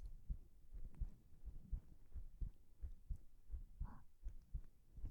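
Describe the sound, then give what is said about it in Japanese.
A steady heartbeat, heard while being held in a tight hug, thumps low in a slow, regular rhythm, each beat a soft muffled double pulse, with faint rustling in the background and no voices. “こうすると、心臓の音がトクントクンって聞こえて落ち着ける。”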